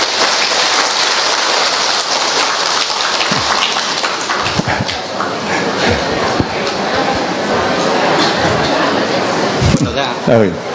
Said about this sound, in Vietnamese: rồi lên đây con, rồi một tràng pháo tay chào người anh em.